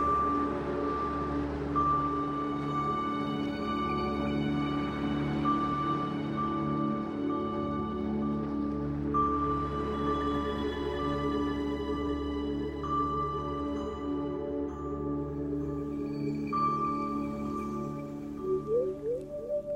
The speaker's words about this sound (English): And now let's listen to man-made music's sound design concept of a hospital using harmonious tones instead of traditional alarms.